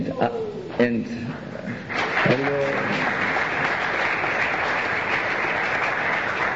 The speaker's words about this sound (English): I would say what we do is I read all the names and then in the end we give them a big applause because then we save time.